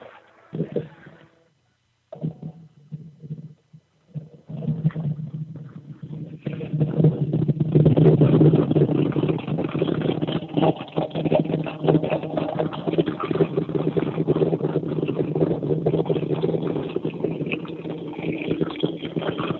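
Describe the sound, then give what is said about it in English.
After a few seconds of quiet clicks and shuffling, the engine of a 2000 Pontiac Trans Am WS6 with an F13 cam and full exhaust with a Magnaflow cat-back fires up and settles into a loud, steady, throaty idle with a deep rumbling exhaust that continues to the end. “Here is the startup and idle of the car.”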